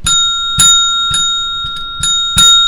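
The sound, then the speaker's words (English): A small bell, used as a gong, is struck about six times in quick, slightly uneven succession, each hit ringing on with a bright, sustained metallic tone. It is fairly loud, with no talking. “We're going to make that our gong. Yeah, but only if it rang.”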